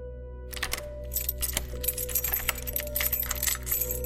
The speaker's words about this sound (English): The lock clicks. Tallahassee turns the doorknob, and the door creaks open.